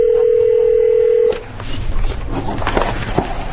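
A steady telephone tone hums for just over a second, then cuts off into faint line hiss with a few soft clicks and beeps of dialing, as a phone call is placed to the borough's auditing firm during a Petersburg borough meeting. No one speaks.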